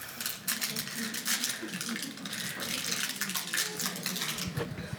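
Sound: running water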